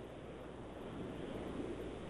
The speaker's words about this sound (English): We hear you breathing.